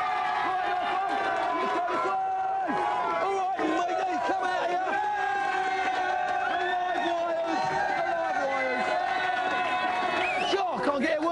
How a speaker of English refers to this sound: Give them a big cheer.